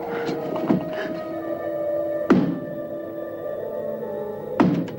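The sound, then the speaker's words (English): A shutter bangs against a window frame three times at uneven intervals, sharp wooden knocks ringing over a steady, eerie sustained tone. “Looking up, Jane locates the source of the noise, a shutter banging against the window frame.”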